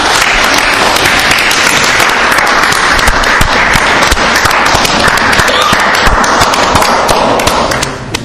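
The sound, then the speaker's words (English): An audience breaks into sustained applause, a dense wash of many hands clapping at once that stays loud and steady for about eight seconds before tapering off at the end. “I'm going to let you demonstrate how bombastic you actually are. Give it up.”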